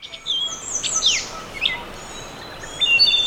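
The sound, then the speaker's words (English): Many birds sing at once in a dense dawn chorus, overlapping chirps, whistles and trills, some bright, others faint, over a soft background hiss. “What might sound like a jumble of noise is actually known as the Dawn Chorus, and for those who can hear it, each voice is a character in the nature drama”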